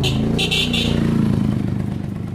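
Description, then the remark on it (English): A motorcycle engine rumbles and passes through busy street traffic in Cairo, with a brief high whine or horn-like tone early on over a steady low roar of vehicles. “A cardiac car horn beats a pulse through alleyways, and the streets are veins pumping waves of traffic”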